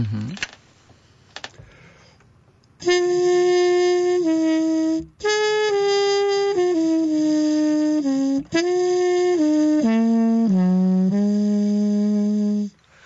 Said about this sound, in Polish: To prosimy o taką małą prezentację. Trąbka z tłumikiem.